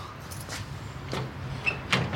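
A door handle is pressed down and rattled against the locked door of a house, producing a few sharp metallic clicks and knocks over a low, steady background hum.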